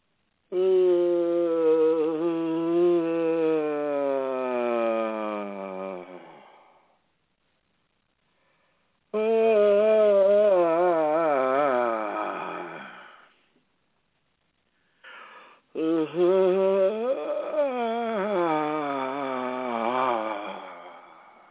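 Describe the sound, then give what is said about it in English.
Three long, loud vocal yawns, each a drawn-out voiced sigh sliding in pitch and lasting several seconds, separated by short silences, with no talking. “So let's just make a few yawns here and make them a vocal yawn.”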